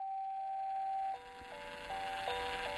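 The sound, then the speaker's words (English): A son's musical mobile plays a simple, tinkling melody of sustained electronic notes, stepping up and down in a steady tune over a constant hum of background noise, inside a small packed car on a road trip across America. “In the time capsule of our small car, packed to the gills with gear, 3 people, and a 90-pound dog, the panorama of America flashed by our windows like a movie set to the soundtrack of our son's musical mobile.”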